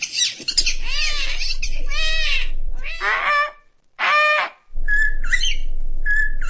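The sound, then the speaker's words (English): A 10-year-old boy from Oklahoma imitates a run of bird calls with his voice: honking, goose-like cries, warbling trills and repeated sharp whistles in loud bursts separated by brief pauses, with no talking. “He's a passionate bird lover who's begun to draw crowds with his talent for imitating a wide range of calls.”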